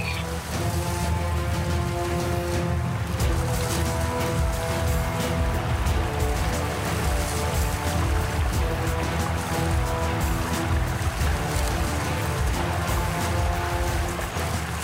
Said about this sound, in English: Approaching Blastock River. Slow current, approximately 3 to 4 feet deep at this location. Proceed with caution.